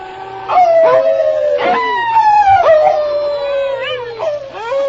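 A dog named King howls like a wolf on command: loud, drawn-out wavering cries that slide down in pitch, breaking and restarting several times over a few seconds, with a second howling voice overlapping.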